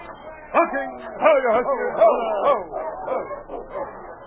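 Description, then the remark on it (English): Sled dog teams bark and yip excitedly as they are brought aboard a boat, overlapping calls rising and falling in quick succession, steady throughout. “Watch our dog teams.”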